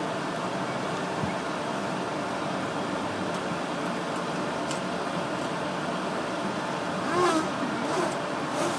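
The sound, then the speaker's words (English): An airplane's air conditioning, just turned on before takeoff, runs noisily as a steady, dense whooshing roar that holds level throughout, with a brief faint rising whine partway through near the end. “Well, so far the only thing they've turned on is the air conditioning, and it's noisy.”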